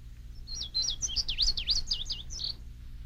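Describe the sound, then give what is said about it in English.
A wild bird sings a rapid series of high, sweeping, bright whistled notes over a low steady background rumble, with no one speaking, at Indian Springs wildlife management area in western Maryland. “With this tape, you will learn to identify the featured birds by their songs and to experience the beautiful sounds of nature as if you were really there.”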